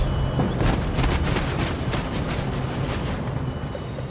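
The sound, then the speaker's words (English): A heavy truck arriving at a recycling center in Treviso, northern Italy, with a load of dirty diapers rumbles loudly, its deep engine drone mixed with a rapid series of rattling, clattering bangs and some wind noise, with no one speaking. “At a recycling center in Treviso in northern Italy, a truck arrives with a load of something most of us prefer not to think about.”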